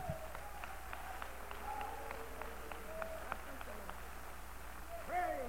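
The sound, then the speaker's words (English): An audience claps their hands in a steady, rhythmic beat to worship God, with scattered voices calling out and singing faintly underneath. “I'd like for us to worship God with a good hand clap right now.”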